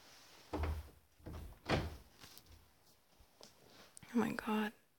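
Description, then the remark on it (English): A door thuds shut, followed by a few small metallic clicks like a lock being turned, then a short burst of hushed voice at the end. “Let me lock the door.”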